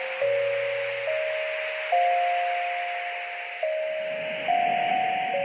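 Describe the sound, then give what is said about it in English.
Widex "Spring" fractal tinnitus therapy sound from Widex hearing devices: soft, chime-like tones in unpredictable patterns that ring and slowly fade, shifting pitch at irregular moments over a steady airy hiss, with no one speaking. “Widex also features the options to play different fractal sounds, which are tones delivered in unpredictable patterns with sounds similar to wind chimes.”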